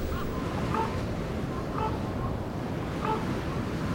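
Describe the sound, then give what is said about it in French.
Strong wind whips steadily against a large, steep quartz rock in a park on a cold February morning, a dense, continuous low rush with no pauses, fairly loud, with faint higher tones flickering briefly above it. “Le jour s'est levé il y a plus ou moins 2 heures et le vent n'arrête pas de fouetter ces rochers escarpés.”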